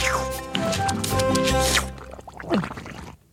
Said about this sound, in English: Such mashing and smashing by Armadillo Gourmet. The sassy salsa splashing as the musicians play.